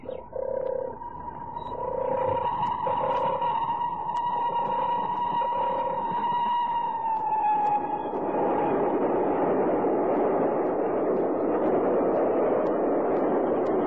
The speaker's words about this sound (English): There goes our only contact with the outside world. Eh? What's that? The train, dear. Oh, yeah. Yeah, I can see the smoke.